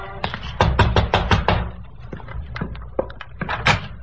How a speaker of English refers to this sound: A light showed in the rear window, so I walked around back and knocked on the door.